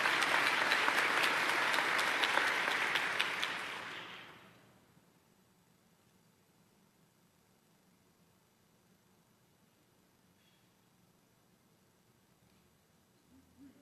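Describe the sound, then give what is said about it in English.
A loud burst of audience applause for city officials during a speech, dense clapping from many hands that fades out after about four seconds, leaving quiet with faint background noise. “Let's give them also a round of applause.”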